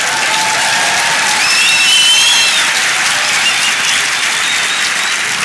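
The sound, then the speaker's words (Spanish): An audience at an awards ceremony bursts into sustained applause, a dense, steady wash of clapping that stays loud for several seconds with no one speaking over it. “Aquí está, un aplaudiment.”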